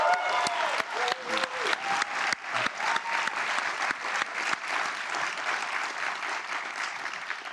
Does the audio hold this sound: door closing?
no